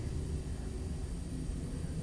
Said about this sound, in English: Listen, that's an aeroplane. We can't see it, but we can hear it.